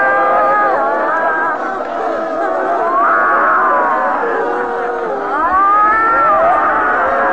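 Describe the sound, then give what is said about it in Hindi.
A large group of people shouting, wailing and screaming all at once during the second stage of a meditation, letting the body dance, jump, cry and laugh, their overlapping voices rising and falling in a loud, continuous, chaotic roar with no clear words. “चिल्लाएं, नाचें, कूदें, रोएं, हंसें।”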